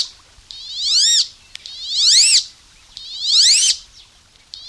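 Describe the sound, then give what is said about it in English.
Three high, rising squealed whistles of a wood duck call out one after another at an even pace, each sliding upward and breaking off, clear against a quiet background. “We take care of what we value, what we devote ourselves to knowing, and one person's dedication can make the crucial difference, as it did with Frank Belrose and the wood ducks he loved.”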